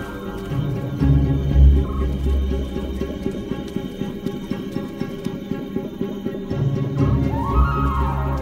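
A dense chorus of frogs croaking, rough pulsing calls overlapping steadily throughout, fairly loud, with a few deeper throbbing croaks rising above the rest and no voices, as a genet tries to hunt a frog.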